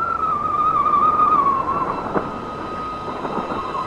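A steady, high whistling tone wavers and slowly sinks in pitch over a loud, rushing bed of noise, like wind howling and whistling without pause for the whole stretch.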